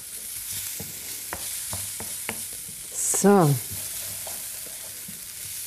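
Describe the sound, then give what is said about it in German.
Food that is already well browned sizzles steadily in a frying pan while a utensil stirs it, with scattered clicks and scrapes and one brief squealing scrape midway. A voice says a single short word. “Ich gehe zur Pfanne und rühre da wieder mal ein bisschen um.”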